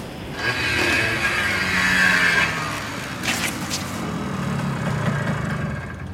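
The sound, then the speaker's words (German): A scooter being ridden on a sidewalk, its motor giving off a steady whine over a continuous rolling rumble. It stays moderately loud throughout, with no voices. “Sie wissen, dass das Fahren auf dem Gehweg mit dem Roller nicht erlaubt ist.”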